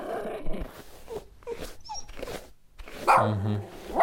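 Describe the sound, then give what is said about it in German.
A dog lets out several agitated barks and whiny yelps while being brushed, ending with a loud, drawn-out bark, with no one talking over it. “Stell dich bitte nicht so an. Ich bürste dich doch nur. Das tut doch gar nicht wirklich weh.”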